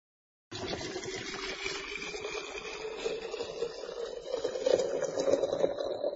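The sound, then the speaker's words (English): Boiling water pours steadily into a teapot holding tea, a continuous splashing stream whose tone rises slowly as the pot fills, lasting several seconds with no talking. “Put tea into the teapot.When the water is boiling, add the water to the teapot.”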